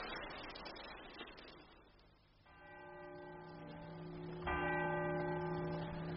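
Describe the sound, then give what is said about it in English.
A clock bell strikes ten o'clock; two deep, resonant chimes are heard a couple of seconds apart, each ringing out and sustaining, after a stretch of faint background noise. “9. 10 o'clock.”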